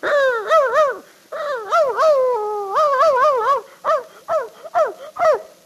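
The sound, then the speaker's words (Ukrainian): A man working as a professional animal imitator performs a dog monologue, with a run of whiny, yelping barks and whimpers, then several short sharp barks near the end, fairly loud. “За кожне собакослово 10 копійок. Як гавкнув, так і гривенник.”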